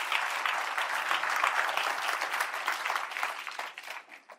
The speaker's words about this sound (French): Est-ce qu'on peut applaudir notre Dieu qui est là?